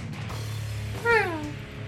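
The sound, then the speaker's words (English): A single clear cat meow, drawn out and falling slightly in pitch, over a steady low background hum. “Oh, hello, kitty.”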